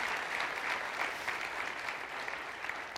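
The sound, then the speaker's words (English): An audience applauds steadily for about three seconds for the volunteers who made the Compassion Connect event happen, a dense, even wash of many hands clapping at moderate volume with no voices rising above it. “Let us give a round of applause to the people who made the Compassion Connect happen.”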